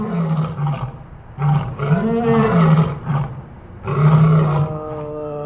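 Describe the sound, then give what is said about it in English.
A lion named Sahar at the Lincoln Park Zoo in Chicago roars in several deep, drawn-out bursts with short pauses between them, loud, with no other sounds around it. “His name is Sahar. Sounds like a lion name.”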